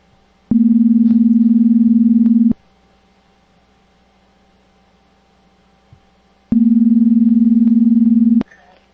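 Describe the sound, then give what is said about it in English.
A telephone dial tone as a call is being placed: two loud, steady two-second hums separated by about four seconds of near silence, heard alone with no talking. “Nice dial tone.”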